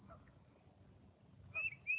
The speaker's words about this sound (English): And I see a beautiful little bird in front of me. It's a little titmouse.